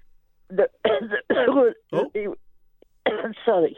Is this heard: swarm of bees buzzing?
no